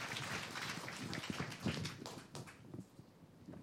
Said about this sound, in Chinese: 系啊，我哋俾啲掌声俾我哋嘅神。 我们给掌声我们的神。